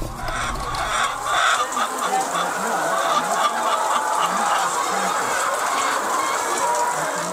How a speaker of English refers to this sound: … runs a medium-scale poultry farm. He's taking me through his farm of over 800 birds of different sizes and breed.